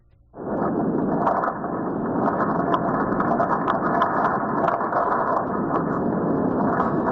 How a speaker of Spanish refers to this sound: Es el sonido, el rugido del subsuelo de la isla de Tenerife en un nuevo enjambre sísmico que han mostrado los propios científicos. Desde el domingo por la noche, una nueva secuencia con pequeños terremotos de baja intensidad.